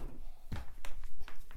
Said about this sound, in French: Toc, une valise.